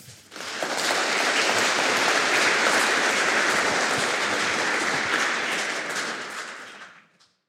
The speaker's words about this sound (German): Applaus für Sie.